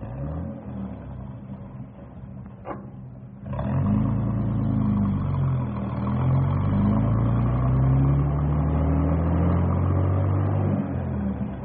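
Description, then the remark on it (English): A bus engine idles with a low rumble, gives a brief clunk, then roars louder and revs through shifting gears as the bus pulls away, staying steady without any talking. “Well, we better get this bus rolling because it's getting close to pickup time.”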